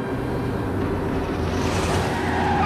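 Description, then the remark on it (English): A flashy blue sports car roars as it speeds round a corner into a car park, its engine a steady, loud rumble that climbs in pitch toward the end, with no voices. “A flashy blue sports car speeds round the corner into the car park.”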